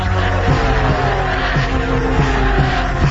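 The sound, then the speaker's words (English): Race cars roar around a track in a loud, continuous engine drone, with tires squealing amid the steady din, as the 47 car has cut a tire after contact with the wall and debris lies on the racetrack. No one speaks. “It's like that the 47 car cut a tire because he makes contact with the wall.”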